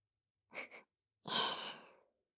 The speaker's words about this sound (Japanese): まだはぁはぁってしてる。